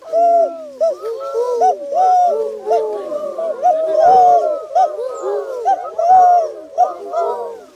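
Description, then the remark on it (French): Human voices imitate the soft purring coo of a turtle dove, repeating rounded hooting notes that overlap one another continuously, fairly loud throughout. “Et la tourterelle, c'est tout, tout, tout.”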